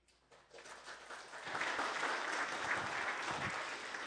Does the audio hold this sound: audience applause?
yes